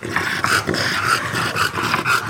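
A flat-faced, short-snouted dog pants hard and raspily after a few minutes of running, quick noisy breaths coming in a steady rhythm for a couple of seconds, with a snorting, almost growly edge and no talking.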